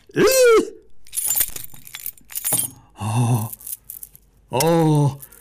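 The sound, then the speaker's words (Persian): Metallic keys jangle and clink for a couple of seconds at moderate loudness as a chest is being unlocked, bracketed by short wordless vocal exclamations with rising and falling pitch before and after. “آن کلیده رو بیمین بیدی زود باش، در صندوق بگشاییم.”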